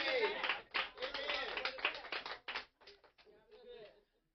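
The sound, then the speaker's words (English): A group of women clapping in a loose, uneven burst of sharp claps with voices mixed in, the clapping thinning into scattered hits before stopping. “And look at the women clapping.”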